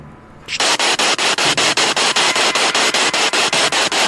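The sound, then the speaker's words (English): After a brief quiet moment, loud radio static bursts in, a harsh steady hiss broken by rapid, regular pops and crackles that pulse throughout. “I hoped I had helped, and the voice, that final voice, the only voice that was heard there again that night, came from the popping and hissing of the radio.”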